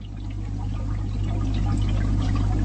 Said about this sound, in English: A bubbling sound coming out of a wooden and glass box conjures up the mysterious atmosphere of a 16th century alchemy laboratory on the ground floor of a picturesque courtyard building in Prague's Malá Strana district